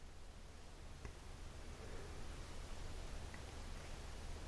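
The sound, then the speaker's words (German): A steady wash of hissing noise from a keyboard synthesizer, even and unbroken, sitting at a fairly low level with no voices and only a faint tick or two. “Also da ist zum Beispiel auch so ein Rauschen drin, ne?”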